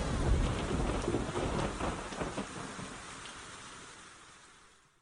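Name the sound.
thunderstorm with rain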